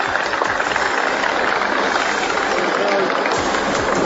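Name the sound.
aircraft flying overhead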